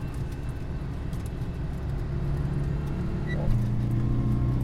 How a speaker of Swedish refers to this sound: Och här kommer vi och vips kommer vi snart att möta ett litet gupp här. Vilket då inte är någonting för en Citroën 2CV eftersom den är gjord för att ta hand om gupp.